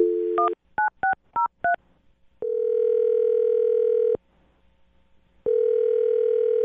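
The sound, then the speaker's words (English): A phone dial tone hums briefly as a woman's number is dialed on the radio show Brooke and Jubal in the Morning, then four quick keypad beeps are punched in, followed by long steady tones separated by a short silence. Clear, with no talking. “Well, I'm going to dial her phone number right now and see if we can figure out why she isn't calling you back.”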